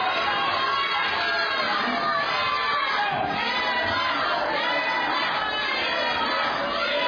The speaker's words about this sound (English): Thousand points to the yellow team for cheering.